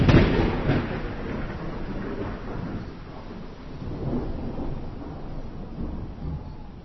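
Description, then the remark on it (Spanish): A thunderstorm rumbles with deep, rolling thunder that starts with a strong crack and keeps growling steadily for several seconds, with a rainy hiss underneath and no voices. “La tormenta se había intensificado todavía más y ahora cubría el 100% de la Tierra.”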